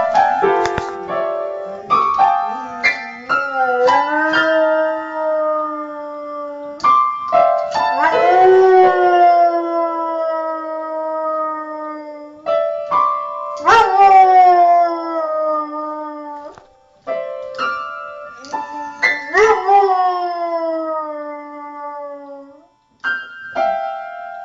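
A dog howls in long, wavering, sliding cries, loud, while it plays a piano itself, the notes struck irregularly underneath, sometimes in clusters, with no talking.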